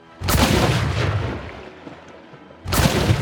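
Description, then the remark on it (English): A loud, goopy explosion sound effect bursts and rumbles, slowly fading over about two seconds before a second blast erupts at the end. No one speaks. “Just another goopy explosion.”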